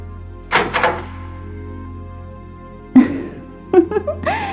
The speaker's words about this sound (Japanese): やっと鍵を開けてくれた。入るわよ。